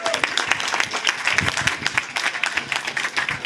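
An audience applauds steadily at a vegan festival, welcoming the event's organizer, many hands clapping in a dense, bright patter that stays fairly loud and even throughout, with faint voices mixed in.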